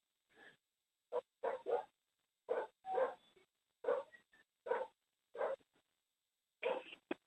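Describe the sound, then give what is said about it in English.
A dog barks repeatedly in short, irregular bursts, about ten sharp barks spread over several seconds with brief pauses between them, fairly quiet and with no talking. “The dog has an opinion. Can anyone translate? Can anyone translate bark?”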